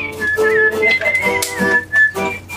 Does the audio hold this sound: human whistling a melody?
yes